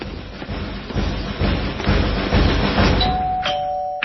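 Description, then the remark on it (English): A dense, rumbling clatter of noise fills the first few seconds, then a doorbell rings out with two clear tones, ding then dong, the second note lower and ringing on. “Joey, the door!”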